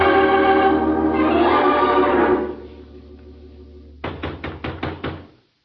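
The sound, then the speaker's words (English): Five firm, loud knocks on the wooden door of a hut in quick, steady succession, following a stretch of sustained droning background sound that fades out before the knocking begins. “There was no answer to my knock.”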